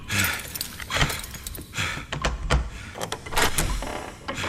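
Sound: door being opened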